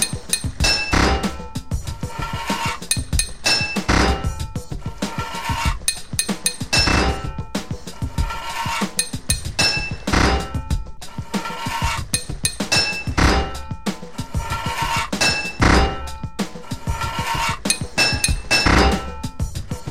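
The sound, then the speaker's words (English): In a game, a hammer strikes a metal pipe again and again to fit it, sharp ringing clinks in quick, steady succession that continue for the whole stretch, loud, with no voices. “Four hits of your hammer to fit a pipe.”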